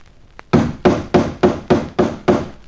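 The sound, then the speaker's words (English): Seven heavy, evenly spaced knocks strike the newly painted hull of a boat on its starboard side in a steady rhythm, each a loud, resonant thud that quickly dies away. No one speaks. “I say, look here, that's my new paintwork you're knocking about.”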